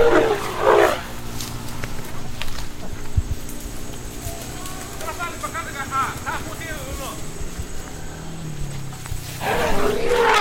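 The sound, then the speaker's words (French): The larger of two elephants charges toward the microphone close by: deep rumbling and heavy low thuds run throughout, with harsh roaring calls rising midway and loud bursts of noise at the start and end. “Lorsque le plus grand, se sentant menacé par ce qu'il prend pour une arme, entreprend de nous charger.”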